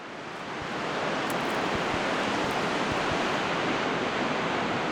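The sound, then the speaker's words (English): Ocean surf roars steadily against rocks, a dense, hissing wash that swells in over the first second and stays loud, with occasional low thuds beneath the spray. “From black-legged kittiwakes nesting on the jagged edges of seaside cliffs, to a posse of surf scoters riding the ocean waves in a V formation as they forage for mussels off of the rocks below.”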